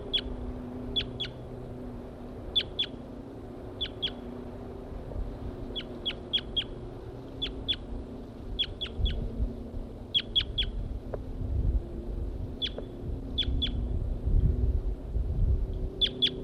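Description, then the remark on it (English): A caged male bird, M4, sings a series of short, high, sharp chirps while a wild female interacts with him. The chirps often come in quick pairs or triplets, repeating at a steady pace over a low, rumbling background noise. “The female is interacting with M4 here, who was in song.”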